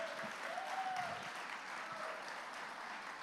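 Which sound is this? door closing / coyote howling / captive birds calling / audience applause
audience applause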